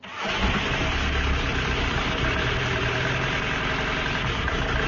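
A car engine that makes a strange noise turns over and settles into a steady, rough running drone, loud, holding without pause for several seconds with no voices.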